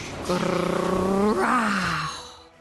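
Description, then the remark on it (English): A loud, deep growl coming from the hills in a story, lasting about two seconds, with a rough, buzzing tone that swells and then slides lower in pitch before fading out. “Whoosh! Growl! Whoosh! Growl!”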